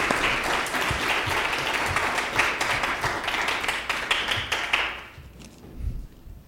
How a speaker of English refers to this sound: Démosle un aplauso a mi Dios. Give God another applause.